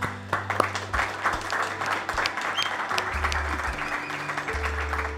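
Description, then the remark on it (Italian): An audience applauds three musicians at a live showcase with audience on Radio X, steadily for about five seconds, a dense patter of many hands clapping at an even loudness, with low sustained tones humming underneath. “Un applauso.”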